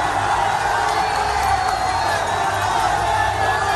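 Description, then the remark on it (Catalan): A deafening crowd roars and cheers continuously along the streets of Siena on the final climb of the Strade Bianche cycling race, a few metres before the finish at Piazza del Campo; a dense wall of shouting voices that stays loud and steady throughout without a break. “Aquests crits assordidors del públic són els carrers de Siena, en l'última pujada de la prova, uns metres abans de l'arribada a la Piazza del Campo.”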